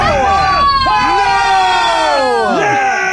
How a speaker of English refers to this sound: You've been booed.